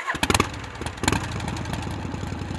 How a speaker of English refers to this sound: But even if you don't know much about engines, you can tell that a motorcycle sounds different than anything else on wheels.